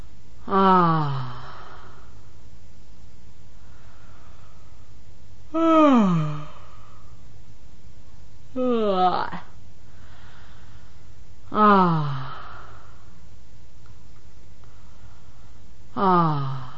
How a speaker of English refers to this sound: With the patient now preoccupied with her thoughts, her breathing becomes shallow, and she no longer uses the belly in the breathing.